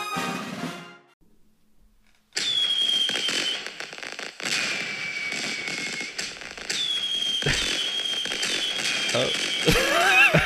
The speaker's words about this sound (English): Sorry, there was just fireworks in the background.